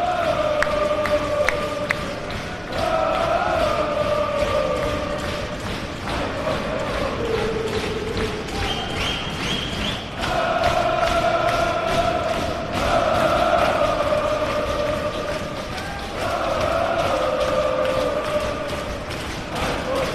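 Post-match, a large crowd of Tottenham football fans, dancing round and round in circles, chants a repetitive, droning, trance-like song for Tottenham's manager Ange Postecoglou in phrases a few seconds long, while constant rhythmic slapping on metal by the fans clatters underneath.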